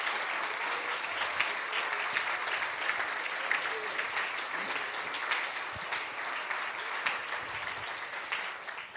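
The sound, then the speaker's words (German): Steady applause for God during a Christian sermon fills the whole stretch, a dense, even wash of many hands clapping at a fairly loud level with no voices standing out. “Hey, lass uns ihm einen Applaus dafür geben, denn das ist wirklich die beste Botschaft, die es gibt.”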